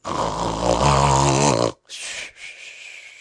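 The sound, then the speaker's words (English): A loud snore, apparently made by a voice imitating Tommy Brock snoring regularly: one long throaty, rumbling exhale followed by a short, raspy intake of breath. “Occasionally a drop splashed over, but still Tommy Brock snored regularly and never moved, except in one eye.”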